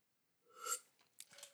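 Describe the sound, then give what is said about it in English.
A short, breathy slurp as a drink is sipped, followed by a few soft wet clicks and a quiet swallow. No one speaks. “Sorry, I had to take a sip of a beverage.”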